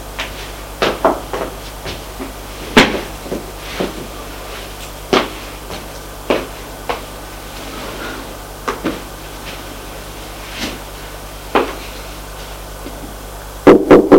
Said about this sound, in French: On a frappé à la porte.